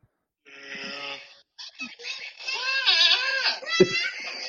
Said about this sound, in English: What the hell is that? Okay, dude, stop it. Goat sounding like humans. Stop it. That's awful. It's actually hilarious.